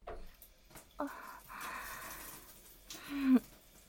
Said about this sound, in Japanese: それに、炭酸ヘッドスパのお時間も終了です。最後にお湯で炭酸を流していきます。